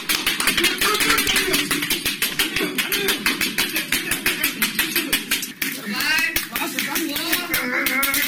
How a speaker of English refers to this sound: a new Guinness World Record was broken this weekend. This is the sound, a portion of it anyway, of a man who was able to crack 273 walnuts on his head in 1 minute. One scarce minute.